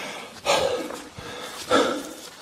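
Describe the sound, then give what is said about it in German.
Two heavy, breathy exhales spaced about a second apart, like someone puffing to catch their breath after climbing uphill, with a faint background hiss in between. “Wäre es nicht sinnvoller gewesen, du gehst da einfach erstmal hoch, schnaufst dann ein bisschen durch, atmest durch, kommst zur Ruhe, setzt dich dann irgendwo hin und machst dann ein Video?”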